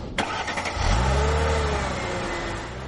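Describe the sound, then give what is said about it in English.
A car engine cranks to life with a sharp click, then revs up into a loud, rising roar that holds steady, with no one talking, for a Vikings Karaoke drive with rookie tight end David Morgan. “Well, before the season started, I got an opportunity to drive around with David Morgan, a rookie tight end who you're really going to like.”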